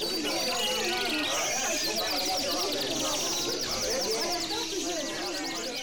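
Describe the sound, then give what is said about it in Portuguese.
Birds chirp and twitter steadily throughout, their quick high calls layered over a dense, busy backdrop of murmuring voices and other clutter, all at a constant moderate level. “Ele usa conversas, risos de bebê, sons de computador e pássaros.”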